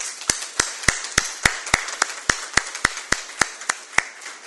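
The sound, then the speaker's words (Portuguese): Hands clap in a steady, even rhythm, roughly fourteen sharp, crisp claps over about four seconds, with no voices alongside: a small round of applause from city council members in the council chamber, given in honour of the Teatro de Recreio. “eu gostaria aqui de parabenizar todos os atores, a todos aqueles personagens, e de coração eu pediria aos colegas vereadores uma salva de palmas para o Teatro de Recreio, por favor.”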